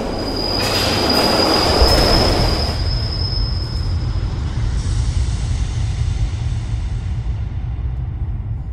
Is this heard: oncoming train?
yes